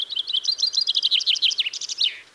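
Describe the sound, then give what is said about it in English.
A chaffinch sings a rapid, bright trill of repeated notes that speeds along and ends in a short descending flourish, with no voices. “The first one is the chaffinch.”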